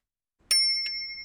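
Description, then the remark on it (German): Bicycle bells on a handlebar ring twice in quick succession at different pitches, bright, with the metallic tone lingering and slowly fading after the second strike. No one speaks. “Und jetzt hat er alle Fahrradglocken und Klingeln für sich entdeckt.”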